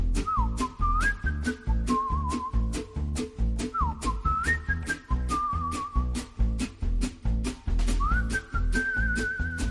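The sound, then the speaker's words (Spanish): A clear whistled melody with rising glides and wavering trills, repeated in short phrases over a steady, beat-driven music backing, played on the radio program Casa de Herrero; no one speaks. “Ay, este silbidito, cómo me gusta.”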